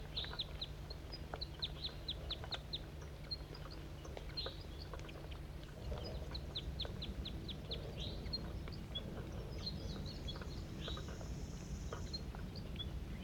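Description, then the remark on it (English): A series of quick, high-pitched bird chirps in rapid bursts, with some longer whistled calls, over a steady low rumble of background noise. No one speaks. “Wild bird.”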